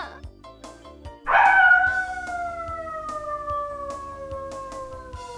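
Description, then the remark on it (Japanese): An actress playing the role of a dog imitates a dog's howl: one long, loud, drawn-out cry that starts suddenly and slowly sinks in pitch for several seconds, over a soft rhythmic musical background. “くっそー、なんて看板女優の私が犬の役なのよ。”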